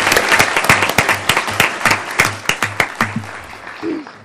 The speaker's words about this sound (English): Well, we've got to give you a round of applause. That was good.